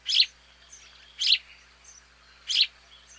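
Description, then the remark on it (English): Three short, bright chirps from a Eurasian tree sparrow, evenly spaced about a second apart, clear against a quiet outdoor background with faint birdsong. “In the 1870s, another European sparrow came to the U.S., but had a completely different fate.”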